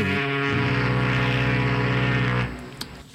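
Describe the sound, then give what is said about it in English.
A single deep, droning foghorn sound effect blast holds loud and steady for about two and a half seconds, then cuts off abruptly, leaving a faint fading tail with a couple of small clicks. “I got to get the foghorn sound effect out because it's been getting thicker.”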